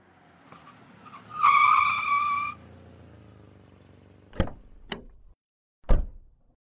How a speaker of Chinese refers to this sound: 你走前边吧，先去开门